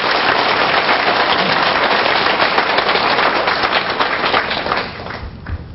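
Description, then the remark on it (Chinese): Dense, sustained applause from an audience honouring a Buddhist master: a steady roar of many hands clapping at once, loud and unbroken for about four seconds before thinning out and fading near the end. “各位师父，伊是用至诚至诚为法忘妻，这款的师父，值得咱敬仰的掌声。”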